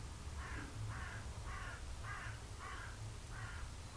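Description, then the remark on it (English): A bird calls out in a steady series of about seven harsh, cawing notes, evenly spaced and fairly faint, over a low background rumble with no one talking. “Bird in the background.”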